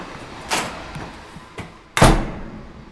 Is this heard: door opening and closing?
yes